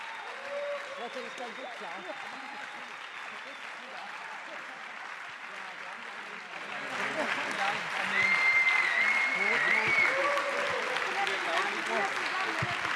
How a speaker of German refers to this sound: Herzlichen Applaus und herzlichen Glückwunsch.